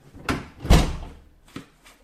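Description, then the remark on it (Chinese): A door swings shut with a solid thump after a short creak-like knock, followed by two quick, lighter metallic clicks as the door is locked from the inside. No one speaks. “请进，把门反锁一下。”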